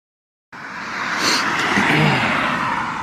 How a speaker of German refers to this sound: Beschwerst du dich über die Autos wieder jetzt, ja?